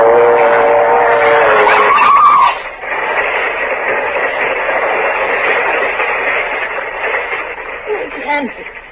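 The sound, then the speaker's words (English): A train bears down with a loud, sustained horn blast, then a heavy rumbling roar of the approaching locomotive fills the scene while voices shout over it, sounding slightly muffled. “The train! It's not coming down your track! It's coming down this one!”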